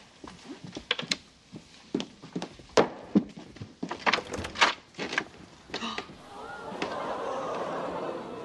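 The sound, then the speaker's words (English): Clown pies smacking against a door in a rapid, irregular barrage of a dozen or more soft, splatty thuds, some loud, giving way to a steady rushing noise at the end. “Why are there pies on the door?”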